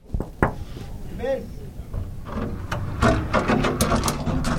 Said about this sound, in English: Sorry about my noisy door. Your door sounds fantastic. It's like in a haunted house.